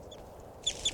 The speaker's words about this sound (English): That was a wild bird. Just flew a long distance. Stop. Recording that wild bird still calling from some distance away now.